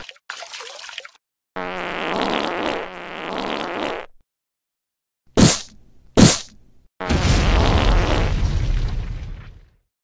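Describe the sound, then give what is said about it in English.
Sonic the Hedgehog blasts apart Robotnik's wall while Robotnik is on the toilet: two sharp, loud bangs followed by a long, roaring crash of crumbling debris, after an earlier short hiss and a drawn-out, sputtering fart-like blast. “Of all people to blow down my wall when I'm taking a shit.”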